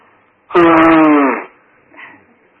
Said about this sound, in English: You'd allow me to blow my nose. It's either that or you must listen to me sniffing.